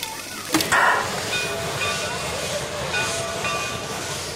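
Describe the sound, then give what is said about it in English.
A restored, well-maintained steam locomotive, engine number 4, of gleaming black steel and brass, idles with its steam pressure holding steady, a steady broad hiss of steam filling the air, with a sharper burst of venting steam early on and faint mechanical tones underneath. “This is a chaise locomotive, restored and well-maintained, gleaming black steel and brass, the steam pressure holding steady, waiting to turn the pistons.”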